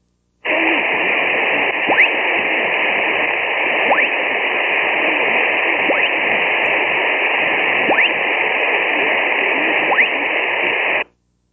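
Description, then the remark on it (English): Steady shortwave receiver hiss with a brief rising chirp from an ionospheric sounder cutting through it exactly every two seconds, five quick swept blips in an even rhythm, with no voices. “Many listeners posted screenshots of the waterfalls so we could see what the blipping looked like.”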